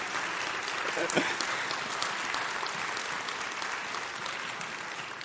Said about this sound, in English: I'd like for everybody to just clap for my family, my mother and father. If you'd please stand up and just let everybody see your beautiful faces.